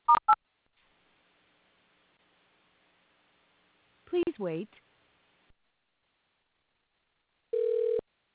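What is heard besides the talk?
telephone call transfer tones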